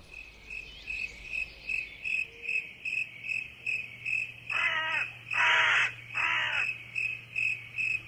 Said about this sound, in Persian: کلاغ ها می آمدند، پرنده ها می ترسیدند و دیگر آواز نمی خواندند.